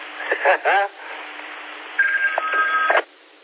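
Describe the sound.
A telephone rings with a steady electronic tone lasting about a second, coming just after a brief burst of voices, everything thin and narrow as if heard over a phone line. The call came from Oklahoma.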